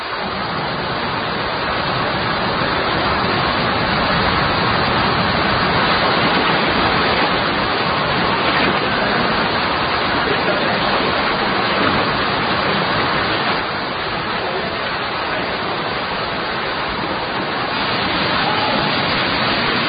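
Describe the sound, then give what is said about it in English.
Water of a cave river rushes steadily downward through limestone in a constant, dense roar that stays loud and unbroken throughout, with no voices. “A weakness in the rock can allow the river to increase its gradient and flow rate, providing a real challenge for the cave explorers.”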